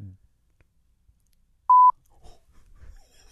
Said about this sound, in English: Now you guys couldn't hear that. Yeah. Cause it's just a big beep. So we'll let your imaginations run just wild with what those could have been.